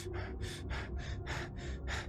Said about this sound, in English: As then, not too far away, maybe 50 yards, you hear this labored breathing.